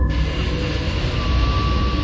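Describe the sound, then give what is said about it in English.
A deep, hollow earthquake rumble rolls on without pause, a steady roar heavy in the low end with a faint hum riding above it. No voices are heard. “'Tis an earthquake. But listen to the hollowness of the sound.”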